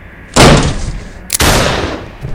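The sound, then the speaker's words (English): Two heavy, sharp booms about a second apart from a shotgun rigged on a string as a booby trap, set off as police break down a door, each a loud, full-bodied crack that rolls off into a hissing decay. No voices are heard. “It was a shotgun on a string.”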